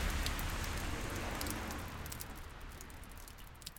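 Steady rain falls in Iceland with a dense, hissing patter and faint scattered drops, continuous, easing slightly toward the end. No voices are heard.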